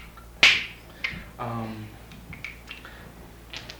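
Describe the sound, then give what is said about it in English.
Ili'ili stones, whose name translates as talking stones, clicked together like hand clapping: one sharp, loud, clap-like crack, then several fainter, irregular clicks, with a short voiced sound in between. “These are called ili'ilis, and they just simply translate as talking stones. It sounds like hand clapping.”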